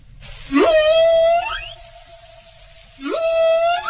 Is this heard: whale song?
yes